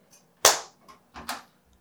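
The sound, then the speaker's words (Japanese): Two sharp, loud hand claps marking the start of a recording, each a bright snap with a short fading tail, spaced less than a second apart, with a few faint ticks around them and no voices. “拍手したらスタートで。”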